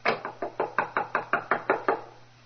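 A locked apartment door is rattled against its frame, producing about ten quick, evenly spaced wooden knocks over a couple of seconds. The knocks are sharp and steady, with no voices.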